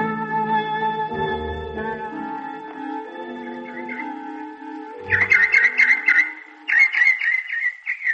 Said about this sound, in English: Did you hear that? A bird.